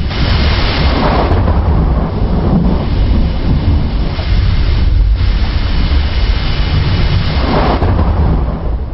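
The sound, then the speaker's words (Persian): Thunder rolls and rumbles loudly and continuously through a storm, with deep low booms swelling in waves over a steady hiss of rain and wind. No one speaks. “تا امروز هم بشر در مورد رد و برق پندارهای خاص دارد.”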